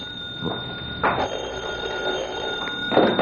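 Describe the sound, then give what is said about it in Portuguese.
A telephone rings steadily with a sustained electronic tone, fairly loud, and a few brief noisy bursts break in over it. No one speaks. “O telefone deve ser minha sogra.”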